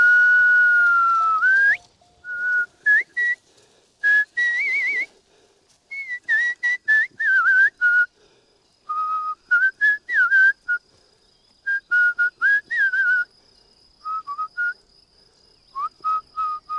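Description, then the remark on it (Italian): A series of sharp human herding whistles during a livestock transhumance, in varied patterns: a long sustained tone, then short bursts, rising trills and warbling calls separated by brief pauses, with no talking. “Fischio doppio con rinforzo. Fischio muto. Fischio a molla. Fischio farfalla. Fischio di fine.”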